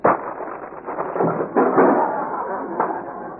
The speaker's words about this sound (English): Well, there goes the chair. The only one in this county, too.